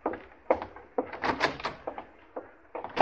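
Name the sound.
door opening and closing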